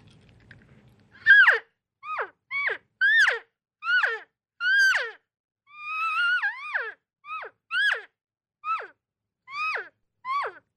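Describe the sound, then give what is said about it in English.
A double-reed mouth call imitates elk cow calls and bugles: about a dozen short, high, downward-sliding mews in a steady rhythm, with one longer, wavering bugle-like note midway. No voices. “I've got the double read in my mouth right now, so I'll give you a couple of demonstrate a couple cow calls and then a couple bugles here.”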